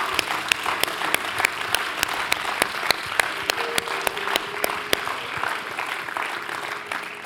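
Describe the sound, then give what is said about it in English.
An audience at a church service breaks into applause as praise to God, many hands clapping in a dense, steady wash with a few sharper claps standing out, lively, fading slightly near the end with no talking. “If you receive the word, would you give God a big hand clap of praise?”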